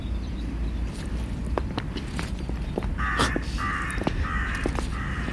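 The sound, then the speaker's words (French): Several harsh crow caws ring out in quick succession in the second half over a steady low outdoor rumble with scattered clicks and footstep-like taps. “Ce qui est génial, c'est qu'on a les corbeaux avec nous.”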